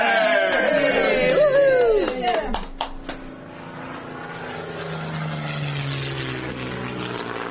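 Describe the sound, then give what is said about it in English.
A propeller airplane engine drones steadily in flight as the plane carries a doctor and diphtheria serum to Barrow through a blizzard, a continuous rough hum that settles in after a few seconds of shifting, whining tones and sharp clicks at the start. “Must send serum and doctor by plane at once.”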